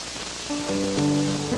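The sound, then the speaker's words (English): A church audience applauds for the Lord in a dense, steady patter of clapping throughout, and sustained organ-like chords rise in partway through, holding beneath the applause. No one speaks. “Let's give the Lord one more hand.”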